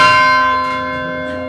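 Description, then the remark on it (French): Church bells ring out loudly, their rich layered tones sustaining and slowly decaying, with a faint fresh strike partway through and no voices present. “Ah, ah, j'aime bien le son des cloches, franchement, j'aime bien le son des cloches.”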